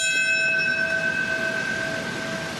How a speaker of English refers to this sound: A 9/11 commemoration ceremony in New York City. A bell rang out at 8:46 a.m. to mark the time the first hijacked plane hit the North Tower of the World Trade Center.